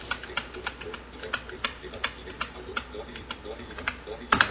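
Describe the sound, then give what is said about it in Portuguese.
Keys on a computer keyboard clack in an uneven series of crisp taps as keyboard shortcuts are pressed (Ctrl Shift End, Alt, Ctrl Tab, right arrow) to select columns and sort them in ascending or descending order, with a couple of louder presses near the end. “Então, Alt, Ctrl Tab uma vez, seta para a direita até classificação crescente ou decrescente.”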